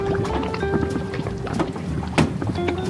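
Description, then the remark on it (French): A boat, the Falco, setting off and moving on open water, with a steady engine drone, rushing wind and splashing, plus a sharp knock partway through; no one speaks. “Allez, le bateau, on y va.”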